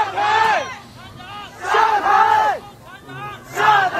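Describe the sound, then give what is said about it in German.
A crowd of protesters in a Chinese city, protesting against the Covid restrictions, chants the slogan 'Down with the Communist Party' in unison. Loud rhythmic bursts of shouting voices repeat in waves roughly every one and a half seconds, with brief lulls of murmur between. “Runter mit der kommunistischen Partei, schreien die Menschen.”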